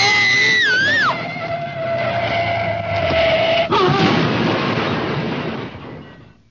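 A car crashes into a tree: a wavering high-pitched wail holds and then cuts off at a sudden loud impact, followed by a few seconds of harsh, noisy rumble that fades away.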